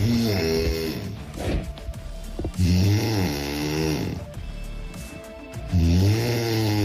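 A woman snores loudly and close up, three long rasping breaths with quieter gaps between them, and no talking.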